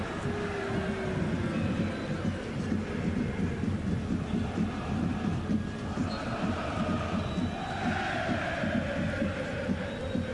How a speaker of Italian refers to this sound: Cantano i tifosi del Borussia, li sentite in sottofondo.